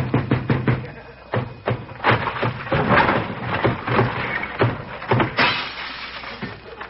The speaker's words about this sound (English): Open this door, I'll break it down.